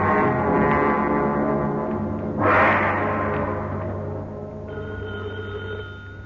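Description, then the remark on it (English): A telephone bell rings steadily and fairly loudly for several seconds in an office at police headquarters, a continuous tone with a brief brighter swell midway. No one speaks. “Is that the phone, Inspector?”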